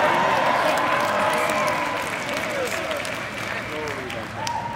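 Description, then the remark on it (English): An audience erupts in sustained applause mixed with loud shouting and cheering voices, a dense, steady roar of clapping and overlapping calls that stays strong throughout. “It's shouting time in the household of faith.”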